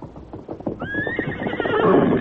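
A horse, Silver, lets out a loud, quavering whinny that rises and holds for over a second, preceded by a few clopping hoofbeats and no voices.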